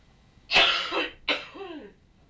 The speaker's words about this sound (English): Cough. Watch that light. Yeah. Cough. Well, you just said cough and it went off. Oh, watching it. Every time you cough, it starts flashing.